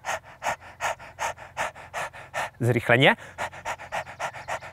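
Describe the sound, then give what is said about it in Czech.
A person imitates a dog's panting with quick, steady, breathy huffs in an even rhythm, fairly loud, as a breathing exercise with a hand on the belly to quickly activate diaphragmatic breathing. The panting pauses briefly for a spoken word, then continues. “Dejte si ruku na břicho a dýchejte se mnou jako pejsek.”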